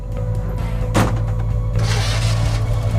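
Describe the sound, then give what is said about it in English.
A car engine hums steadily, with a brief burst of noise, then the motor swells louder as Ben drives off in his car from a parking lot while students film. “Several students stand around filming Ben and Mandy as he drives off.”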